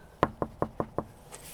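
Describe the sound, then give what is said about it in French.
Five quick, evenly spaced, sharp knocks on a door in a steady rhythm with nothing else around them, by someone asking to be let in. “Eh oh, pouvez ouvrir la porte s'il vous plaît?”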